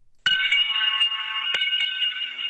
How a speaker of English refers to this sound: Seven astronauts arrived at the International Space Station yesterday. The crew there rang a bell to greet them.